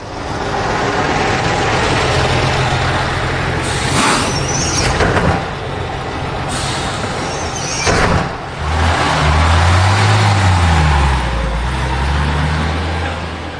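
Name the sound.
bus driving past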